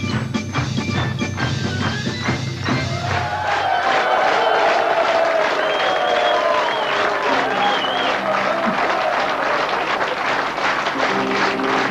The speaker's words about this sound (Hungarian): Hát kérem, Kecskeméten kaptam ilyen tapsot.